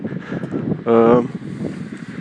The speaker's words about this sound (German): Ich hoffe mal, der Wind, der stört nicht allzu sehr.